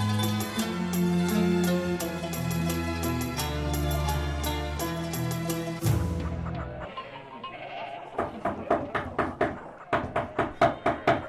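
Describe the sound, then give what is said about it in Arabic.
Sustained tonal, droning sounds give way to a quiet pause, then a series of sharp, evenly spaced knocks on the wooden door of the house of the Messenger of God, clear, in two short bursts. “من الطارق باب رسول الله؟”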